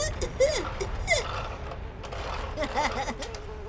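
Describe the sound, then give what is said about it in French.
A fly buzzes with a steady droning hum, its pitch swooping up and down in quick bursts as if it darts around, over faint background noise. “Est-ce que tu entends ça, pompier Kiwi? Oui, c'est Splouche, la super mouche.”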